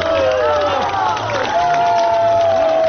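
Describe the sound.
An audience of listeners, mostly pensioners, gives a standing ovation to a new work, applauding and cheering in a dense, steady roar, with raised voices and drawn-out calls rising above the continuous clapping throughout.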